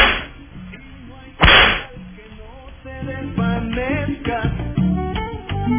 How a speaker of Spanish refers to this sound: Ahí van los latigazos. Tres.